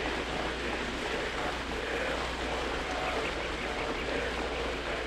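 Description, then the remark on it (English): Steady rain falls without pause, a dense, even hiss of countless drops spread across the range, neither rising nor fading, with no voices over it. “Listen to my voice as you listen to the sound of the rain.”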